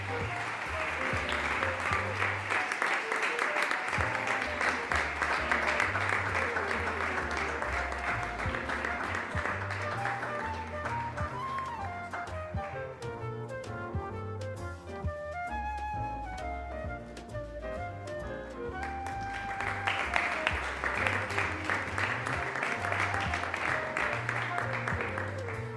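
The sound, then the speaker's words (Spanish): An audience at a Christmas card contest prize-giving applauds steadily for about ten seconds for an 11-year-old student from Colegio Los Salesianos, the clapping giving way to a stretch of music, then a loud, dense round of applause swells up again at the end. “Aplauso para”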